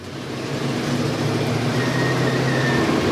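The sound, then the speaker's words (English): A steady low engine drone and road rumble fill the cabin of a moving dim sum food truck heading downtown, continuous and fairly loud, with a faint high whine rising briefly midway and no voices. “I've never been in a food truck before while it's moving, so this will be fun.”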